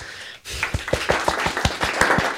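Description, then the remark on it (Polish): Applause: after a brief hush, a run of fairly loud, evenly spaced claps over a steady background hiss, keeping a quick regular rhythm for about two seconds. “No, oklaski.”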